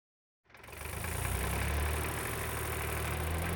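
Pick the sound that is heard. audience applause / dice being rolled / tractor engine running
tractor engine running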